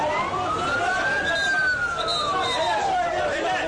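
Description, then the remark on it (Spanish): A police or ambulance siren wails in one slow rising and falling sweep, fairly loud, over a steady wash of street noise, as police and ambulance units head to the site of a bomb attack on a wedding hall in Gaziantep, southern Turkey. “Efectivos de policía y unidades de ambulancias se han trasladado hasta la zona, donde se han vivido momentos de pánico.”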